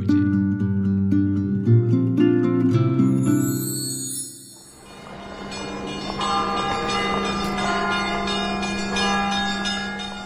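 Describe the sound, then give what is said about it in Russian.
Church bells ring out loudly in Moscow, deep tolling tones giving way to a dense, overlapping peal of many bells that rings continuously, with no voices. “Гудят колокола на Москве, собирается в Кремль простой люд.”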